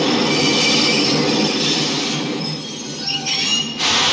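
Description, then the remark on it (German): A subway train's wheels squeal loudly and continuously against the rails, a harsh metallic screech over a rumbling roar, dipping briefly before surging back near the end. No one speaks. “aber sie gehen schon relativ gleich los, also so U-Bahn-Bilder sieht man sieht Bilder von Menschen und es hört sich auch sogar relativ gleich an.”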